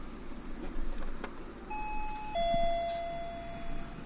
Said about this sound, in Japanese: 家のインターホンの音を取りましたのでお聞きください、うん、では聞いてみましょう。どうぞ。